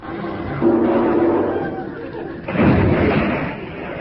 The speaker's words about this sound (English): No bother, it's come off the hooks and dropped back into the water. Hard luck, sir. You've lost your ball.